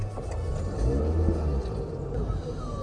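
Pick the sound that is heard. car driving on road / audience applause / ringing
car driving on road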